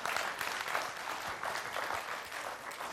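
An audience claps steadily for a few seconds, a dense, even patter of many hands at a moderate level with no voices over it, applauding a participant who has just mimed a king.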